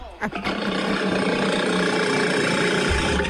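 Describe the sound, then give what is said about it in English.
A walrus named E.T. sputters loudly on command in a steady, rough, rumbling blast that holds for about three seconds after a couple of short opening bursts, with no talking over it. “Sputter?”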